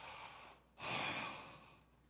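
A single sharp, breathy gasp of joy, fairly loud, a quick rushing intake of air that trails off into a softer exhale, with no talking around it.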